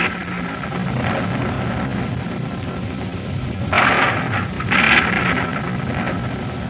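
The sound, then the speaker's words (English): Thunder from an approaching storm rumbles low and steadily throughout, swelling into two louder, sharper rolls near the middle before settling back into a deep growl. No voices are present. “Looks like we're in for a storm.”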